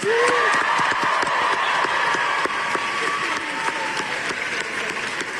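A crowd of students at George Washington University in Washington bursts into loud, steady applause welcoming Greta Thunberg as she receives an Amnesty International award: dense clapping sustained throughout with a few faint cheers and whistles mixed in.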